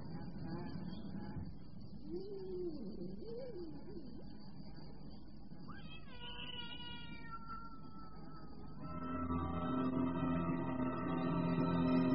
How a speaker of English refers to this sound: Henry Mansell went to bed but didn't sleep. He had heard the cat. Of this he was sure. Neil Summers had heard nothing.